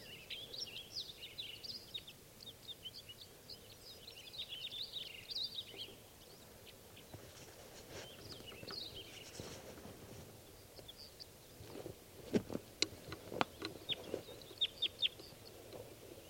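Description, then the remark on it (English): Small birds, two males and one female, call in rapid, high chirps and twitters in spruces by a net setup for the first several seconds, then go quieter; later a series of sharp clicks or knocks sounds irregularly. No one speaks. “One bird just swooped down, saw the net, and then went back, and that was a female.”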